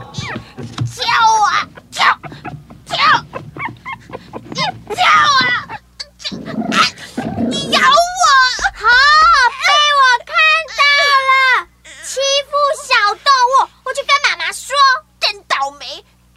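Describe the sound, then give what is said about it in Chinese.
A small dog, held up high and being trained to jump down from a table, whimpers and whines in a rapid string of high, wavering cries, fairly loud, after a few seconds of earlier vocal sounds. “哎，等等，这么小的狗，你把它抓这么高。”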